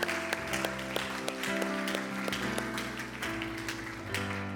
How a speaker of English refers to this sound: Let's give our God a hand clap. Come on, you can do better than that, church. Let's go.